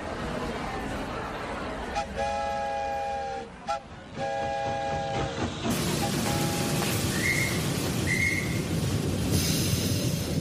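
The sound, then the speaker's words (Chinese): A slow-moving train rumbles and hisses steadily while its whistle sounds two long, chord-like blasts, followed later by fainter, shorter tones over the continuing noise; it stands for the funeral train carrying Abraham Lincoln's coffin slowly past crowds in American cities. “每座城市的铁路沿线都挤满了人，他们默默地站在那里，眼里面含着泪水，看着火车缓缓驶过。”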